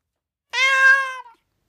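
A single cat meow, fairly loud, drawn out for nearly a second with a slight downward slide at the end, surrounded by silence.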